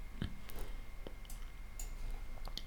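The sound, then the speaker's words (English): Several sharp mouse-button clicks at an irregular pace, quiet, over a low steady background hum with no talking, made while repeatedly clicking to align a Ubisoft program so it plays correctly. “I have to keep clicking the mouse button to align it properly.”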